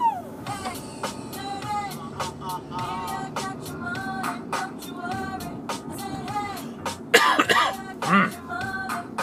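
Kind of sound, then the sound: human body sound, coughing and throat clearing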